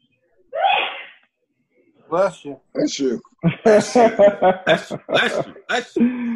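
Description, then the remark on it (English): A single sharp sneeze bursts out near the start during a school board meeting, loud, followed after a short pause by people talking. “Bless you. Oh, boy.”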